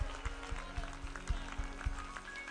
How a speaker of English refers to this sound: Come on, let's give the whole family a hand clap. Thank you so much.